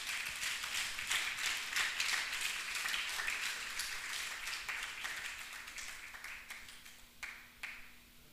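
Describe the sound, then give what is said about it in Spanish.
An audience breaks into steady, dense applause for the Lord Jesus Christ, many hands clapping together for several seconds before it thins out into scattered final claps. No voices are heard. “Dele fuerte el aplauso al Señor Jesucristo.”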